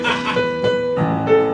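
A brief snippet of a song performed live, with sustained melodic tones and a rich harmonic sound, played fairly loud for under two seconds.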